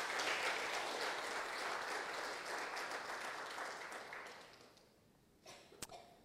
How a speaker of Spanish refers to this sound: Denle un fuerte aplauso al Señor en acción de gracia.